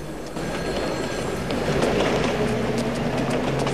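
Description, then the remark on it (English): A tram rumbles steadily, its low mechanical hum and rattling wheels filling the scene, as it emerges from a tunnel into the open air, with faint metallic squeals rising as it slows and pulls up at a stop. “The tram pulls up.”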